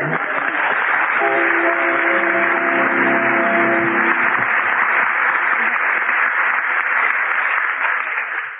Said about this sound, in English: We'll judge this one on the volume of applause, having heard the volume of that applause.